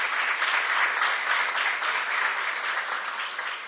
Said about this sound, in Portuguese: Então, uma salva de palmas para o doutor, por favor.